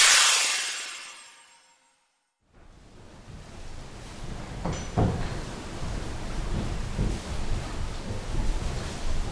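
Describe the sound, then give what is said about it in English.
A fading whoosh and a brief silence give way to a mill's original large water wheel turning inside the building: steady low rumbling water with occasional wooden clunks and creaks, moderately loud and continuous. “Let's see if I can conjure up the sound of the original water wheel.”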